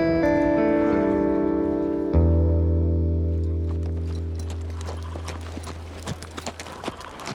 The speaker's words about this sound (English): After the train made a final stop in a town called Lourdes, John Henry claimed his horse from the livery car and made the ride into Purgatory.